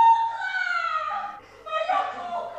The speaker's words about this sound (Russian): Это плачет наследник Тутти.